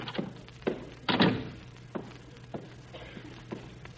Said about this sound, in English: Ah, here's my bookkeeper's office. I'll just drop in and see him. Oh, I know. I'll open the door fast and surprise him.